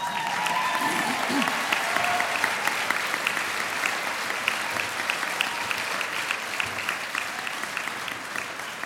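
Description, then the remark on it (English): A crowd of people who ran outside claps steadily and continuously on seeing their own military aircraft in the skies, a dense wash of many hands applauding at once, fairly loud and sustained throughout with no pauses. “Many ran outside and suddenly burst into applause as we saw that it was our guys controlling the skies again.”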